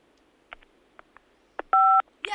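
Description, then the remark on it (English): A single loud phone keypad DTMF tone for the number 5, a steady two-pitch beep lasting about a quarter second, preceded by a few soft clicks of fingers tapping a touchscreen phone. “Hit keypad and then 5.”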